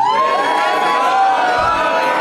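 A woman in the audience at the Nerd Melt showroom at Meltdown Comics in Hollywood screams loudly and continuously, her high sustained shriek carrying over a cheering, roaring crowd for a couple of seconds.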